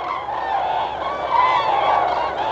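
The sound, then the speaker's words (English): A flock of migrating cranes calling as they pass overhead, coming from the south, many rolling, burbling voices overlapping into a steady, loud chorus with no pauses, the warbling notes rising and falling throughout. No one speaks. “First you hear them coming, a musical burbling that echoes from the south.”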